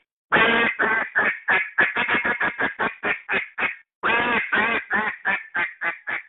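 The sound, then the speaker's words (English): A duck call blown in a transition, a series of three notes leading from the hails into the feed call, in loud runs of raspy quacks, slowing, speeding up, then slowing again, with a brief pause before a second run of quacks. No talking. “So then it progresses there to a transition, what they call a transition, which is a series of three notes that transitions from your hails to your next part of the routine, which is the feed.”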